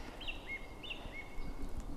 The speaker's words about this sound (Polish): No, mamy tu kosa, śpiewaka, bogatkę, także się dzieje.